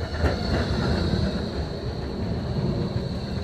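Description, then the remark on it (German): A tram arrives, a steady low mechanical drone with a faint high whine running through it, loud and continuous with no one speaking. “Ja, ich wollte ja irgendwann auch zurück, aber dann kam die Straßenbahn.”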